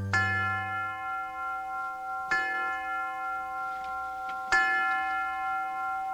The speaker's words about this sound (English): The University of Detroit presents Ask the Professor. The University Tower Chimes, ringing another session of Ask the Professor